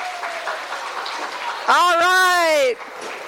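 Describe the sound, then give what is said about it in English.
First-time attendees at a Washington Council of the Blind convention clap hands in a steady, crackling patter, and partway through a loud sustained voiced cheer rises over the clapping for about a second before it dies away. “If this is your first convention with Washington Council of the Blind, clap your hands.”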